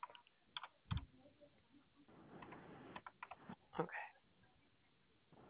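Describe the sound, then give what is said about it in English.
Irregular clatter of keys as someone types a code on a computer keyboard, a few quick bursts of clicks separated by short pauses, fairly quiet with a faint background hiss. “My keyboard, I need a new one.”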